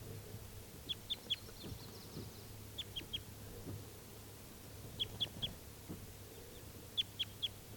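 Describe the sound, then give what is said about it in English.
A male bird, number 391, still free near a net, calls from the trees nearby in repeated bursts of three or four sharp, high chirps, each group spaced a second or two apart, over a low steady hum and faint background noise. “391 is still free, and he's calling in the trees nearby.”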